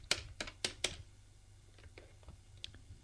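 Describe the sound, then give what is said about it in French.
A notary dials a telephone number: four crisp, evenly spaced key clicks, then a few fainter taps and one last sharp click over a low background hum. “Une fois qu'elle est partie, le notaire téléphone”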